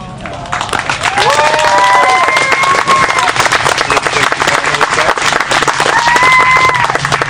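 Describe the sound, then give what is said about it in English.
Wedding guests burst into steady, dense applause for the newly pronounced husband and wife after the ceremony, holding for several seconds, with high whoops and cheering voices rising above the clapping in a couple of bursts. “Let's give them a good round of applause.”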